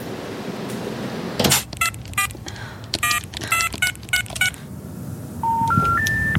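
A telephone number is dialed as a quick series of tonal beeps, followed by three rising steady tones signaling that the number is not in service, over a low background hum.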